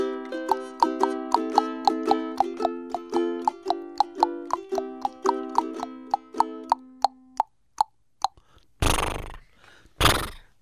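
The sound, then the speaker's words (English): A plucky, bouncing melody winds down, then a horse's neigh bursts in loudly twice near the end, rough and breathy, standing alone after the music fades. “And that's, you know, the horse in the end.”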